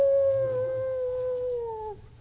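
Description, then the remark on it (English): A person imitates a wolf's howl with one long, steady tone that slowly falls in pitch and trails off after about two seconds. The voice is fairly loud, and it is the only sound. “And way off in the distance, they hear the wolf hollering, oh!”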